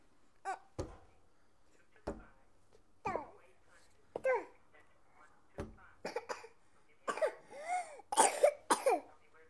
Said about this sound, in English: It doesn't sound too good today. It doesn't sound too good today. No. Where'd you get that cough?